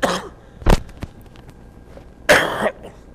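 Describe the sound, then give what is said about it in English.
A loud cough comes in a few sharp bursts: a short one, then a bigger, rougher cough with a throaty rasp, separated by brief quiet pauses and small clicks. “Excuse my cough there, please.”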